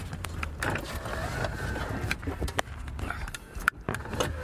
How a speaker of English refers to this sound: I just noticed my mailbox door is open, so I'm going to push it shut.